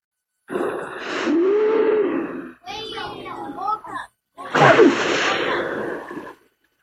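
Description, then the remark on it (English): A humpback whale's breathing blow: loud, breathy hissing bursts, three in a row, the middle one broken by squeaky, wheezing tones and the last ending in a sliding moan. “Humpback whales.”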